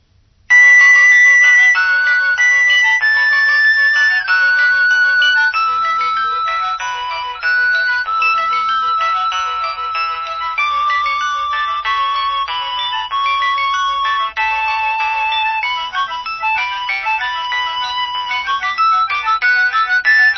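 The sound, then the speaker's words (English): A synthesized polyphonic cell phone ringtone, previewed from the phone's ringtone gallery while the phone also vibrates, plays a bright, bouncy electronic melody with layered chords, loud and steady for the full length, with no voices. “And we're now in the gallery of polyphonic ringtones.”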